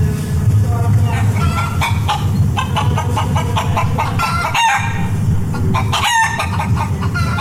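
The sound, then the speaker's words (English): Loud, frantic chicken clucking and screeching squawks pile up as a transition effect, a dense, nonstop flurry of fowl noise broken by two brief dropouts near the end. “Check out this sweet ass transitions of chicken screaming, clucking.”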